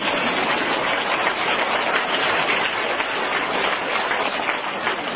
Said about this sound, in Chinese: 请鼓掌